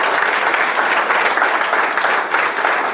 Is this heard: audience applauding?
yes